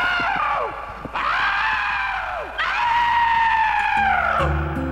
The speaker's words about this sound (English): Because there's a good one on your cheek. … screamed.